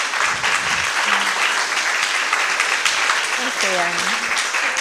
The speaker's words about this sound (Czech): pořádně ji zatleskáme, protože ona má trému.